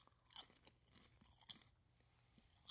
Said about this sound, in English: All right, we're going to taste this live. All right, let's see. I'm taking some right now. Hold on. And I'm sorry for the chewing.